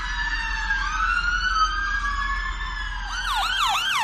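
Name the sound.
ambulance sirens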